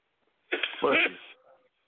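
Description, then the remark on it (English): A single fairly loud sneeze: a short voiced intake rising into a sharp, breathy burst, then a brief fading trail of sound. No one talks over it. “Bless you.”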